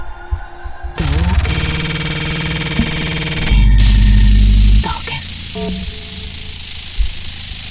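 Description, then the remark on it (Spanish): Harsh, frozen audio from a pirate Famicom video game console stuck in a loop: a loud buzzing drone with repeating tones, jumping abruptly to a louder low hum and then broken, stuttering static, with no talking. “Así se me paraba a mí. Así, así. Mi Famicom pirata.”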